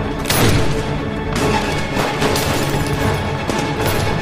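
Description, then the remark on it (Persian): Several loud gunshots crack out at irregular intervals, roughly four sharp bursts, fired at British soldiers in front of a building, over a dense, continuous roar of battle noise with no voices. “فخور بهشون شلیک میکنه.”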